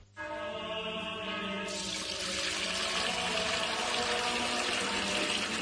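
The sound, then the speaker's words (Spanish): Fuente Umbría spring water pours steadily into a container, a continuous rushing flow with rising, ringing tones as it fills, fairly loud, with no voices. “es que no nos quedaba agua bendita. Agua pura de manantial Fuente Umbría.”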